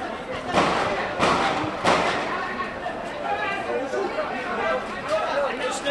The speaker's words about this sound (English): There have been sporadic bursts of shooting and loud explosions. The people on the streets believe the operation's over. It isn't. The fighting is still going on.